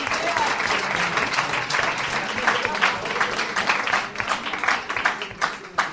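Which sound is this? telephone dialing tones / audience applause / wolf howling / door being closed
audience applause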